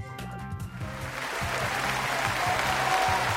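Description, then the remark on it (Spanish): Applause given as the weekly 'green traffic light' award to Neus Català rises after a brief start and settles into steady, dense clapping that holds loud to the end, with a low, repeating rhythmic tone pulsing underneath. “Bé, doncs aquest aplaudiment del semàfor verd que cada setmana li entreguem al guardonat o guardonada, la Neus Català, tot un referent, tota una dona treballadora i lluitadora.”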